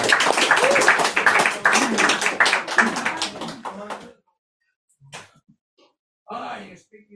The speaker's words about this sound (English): Oh, yeah, here he is. Big round of applause.